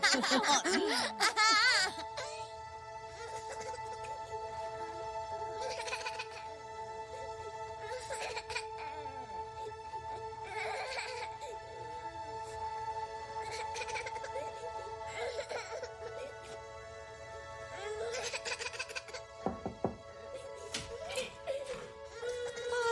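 A baby boy cries in repeated wailing bursts every couple of seconds, fairly loud, over a steady low background hum.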